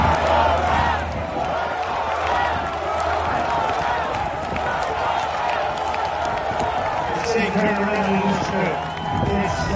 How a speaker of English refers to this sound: Listen to this crowd.